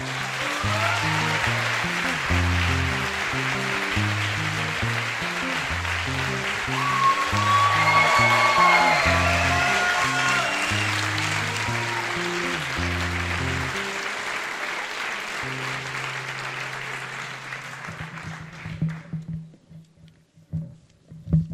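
A crowd applauds Bernard Werber steadily for about eighteen seconds, a dense wash of clapping over a pulsing, rhythmic bass beat, before the clapping thins out and fades to near silence.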